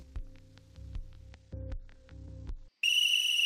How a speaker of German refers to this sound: Vom Teleschirm kam ein ohrenzerreißendes Pfeifen. Ein langer Dauerton. Es war 7.15 Uhr. Zeit zum Aufstehen.